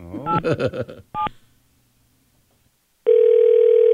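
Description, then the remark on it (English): A quick run of telephone dialing tones, a short silence, then a steady electronic ring tone on a phone call to the MTA New York City Transit Travel Information Line, holding loudly through the end, with no one talking. “We're going to call them right now.”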